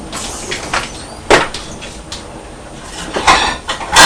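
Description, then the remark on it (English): An electric kettle boiling water for tea, a steady rushing hiss with rumbling, crackly surges that swell and fade irregularly. No one speaks. “And the kettle's boiling, can you hear it?”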